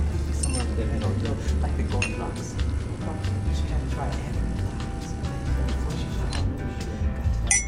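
Two ceramic coffee mugs clink together in a brief, bright knock, set against a steady low room hum and indistinct background chatter.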